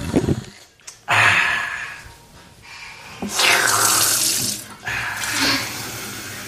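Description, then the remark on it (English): A tap runs in three loud, hissing bursts with brief pauses between them, water gushing into a cup to get a child a drink, with no talking. “Let's go and get you some water to drink.”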